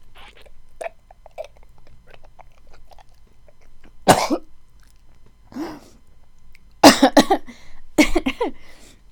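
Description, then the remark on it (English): Several harsh coughs break out, one at about four seconds and then a louder cluster of two or three near the end, with faint rustling and small mouth noises in between. “No, sorry, it's just a cough.”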